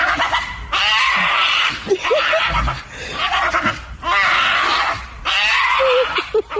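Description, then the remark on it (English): A pug dog screams in four long, shrill, wavering bursts separated by brief pauses, loud with no talking. “I think it's a screaming pug. A screaming pug. Yes, a pug dog.”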